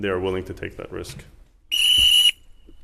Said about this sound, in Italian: Ogni mezz'ora gli sminatori si prendono una pausa. Il responsabile del campo la annuncia con un fischietto.